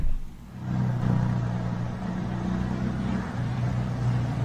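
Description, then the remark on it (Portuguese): A bus engine rumbles steadily as the bus drives into a bus station at full speed, its low drone holding loud and constant, with a slight rise in pitch suggesting revving. “Agora você já pensou, você tá chegando na rodoviária, Cleo de Costa, e de repente o ônibus entra com tudo e rebola pedaço de telha pra todo lado.”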